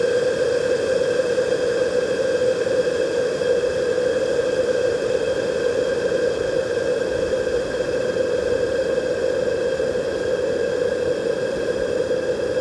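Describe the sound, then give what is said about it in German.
A steady, unbroken roar of hot steam blasting over a condenser microphone being cooked in water vapour during an experiment, a dense hiss with a droning hum running through it at constant loudness throughout, with no voices. “Kochen eines Mikrofons im heißen Wasserdampf.”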